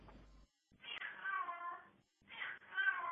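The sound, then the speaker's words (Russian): A cat yowls in two long, wavering, drawn-out cries separated by a brief pause, loud and insistent like a cat in heat, with no talking. “Че там у твоего кота март наступил?”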